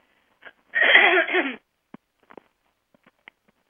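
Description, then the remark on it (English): A harsh, rasping throat clearing about a second long, broad and noisy, followed by a few faint clicks and small mouth sounds in otherwise quiet surroundings. “So excuse me if I have to clear my throat, and I'm going to I think I'm going to have to do that right now.”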